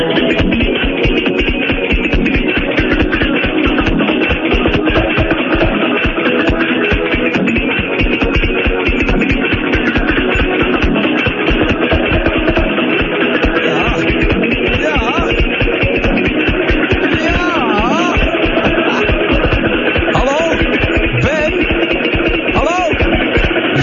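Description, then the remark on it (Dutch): A DJ minimix plays loudly and without a break, a steady thumping beat driving under layered, slightly muffled melodic sounds and sustained tones for the whole stretch. “Maar dan verraden we nu vast hoe die dan klinkt. Klein stukje, ja.”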